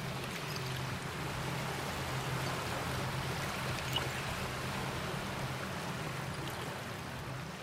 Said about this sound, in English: I think my favorite part of coming down here actually is sitting quietly and listening to the water come in, because you can hear it, the tinkling noise of broken glass as the water comes in. Usually around dusk it sounds more, the ambient music.